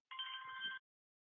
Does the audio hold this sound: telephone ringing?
yes